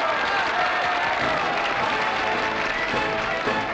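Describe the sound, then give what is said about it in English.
A crowd at the Nice airport applauds and cheers brave comrades for an achievement, a dense, steady wash of clapping mixed with excited voices that holds at an even, fairly loud level throughout. “Who will join me in cheering my brave comrades who have made this achievement possible?”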